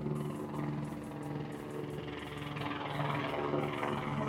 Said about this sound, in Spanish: Bueno, no sé si el noise canceling del micrófono llega a captar, llega a borrar el helicóptero. Pero acaba de pasar un helicóptero de noche. O sea, cuando pasan, acá pasa bastante esto, ¿eh?